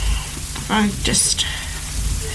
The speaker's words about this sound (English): So that's rain.